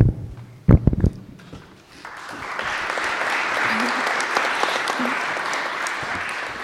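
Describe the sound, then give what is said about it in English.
An audience breaks into sustained applause as the first speaker is introduced, many hands clapping in a dense, steady wash that swells after a few brief thumps and murmurs at the start. “Well, I'm really glad you guys are already clapping.”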